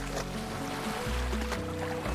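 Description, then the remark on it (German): Steady wash of the Sicilian sea in spring, soft waves sloshing as someone swims, a continuous watery rush with a low rumbling undertone and no voices. “Duft hat doch das sizilianische Meer im Frühling.”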